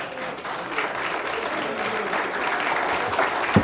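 Steady applause from the audience at a public hearing after a speaker finishes, a continuous wash of many hands clapping at moderate volume for several seconds, with a murmur of voices underneath.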